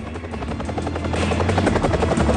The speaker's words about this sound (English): The helicopter flies in and lands with dark brown hills behind it.